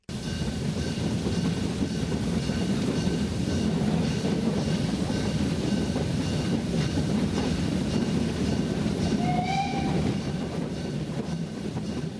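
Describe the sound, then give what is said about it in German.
A narrow-gauge steam train, running since 1886 from Bad Doberan to the seaside resorts of Heiligendamm and Kühlungsborn in Mecklenburg-Vorpommern, rumbles and chuffs steadily, loud and continuous, as it slowly sets off, with a brief high whistle near the end. No voices are heard. “Heftig schnaufend und pfeifend setzt er sich langsam in Bewegung.”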